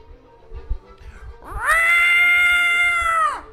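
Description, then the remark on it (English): A single loud, drawn-out cat yowl, sustained for about two seconds, sliding up at the start and dropping away at the end, following a brief stretch of low background rumble. “Where the delegation of Persian cats?”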